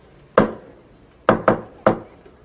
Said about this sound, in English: If I have any kind of news of any kind, something good, something nice that I want to share with you or something, I will knock 4 times, okay? It's gonna be our secret code.